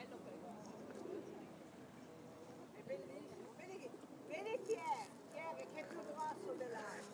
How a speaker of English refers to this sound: Got lots of birds, I presume they're feeding the birds.